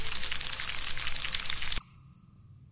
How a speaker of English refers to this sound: And the first thing that happens is that all the crickets come.